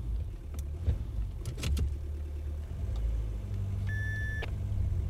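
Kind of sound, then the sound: vehicle, taxi car driving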